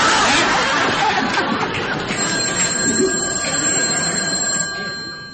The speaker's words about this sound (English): You wasn't expecting no call, was you? No, man, I didn't even know I had a phone. Look at here, you check out the kitchen and I'll check out the phone, all right?